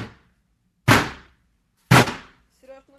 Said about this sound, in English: The sound of police. They conducted huge raids, often breaking down doors, targeting allies and supporters of the country's most prominent opposition leader, Alexei Navalny.